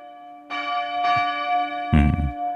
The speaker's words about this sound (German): Achtung, so klingen die Glocken des Tages. Kennen Sie diese Glocken?